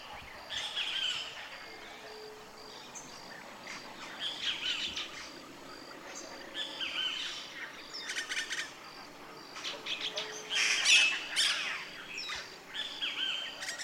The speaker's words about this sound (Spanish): Estoy por un tramo del río donde las casas y los gallos son escasos y la mañana está inundada por las voces de las aves. Una celebración cantada.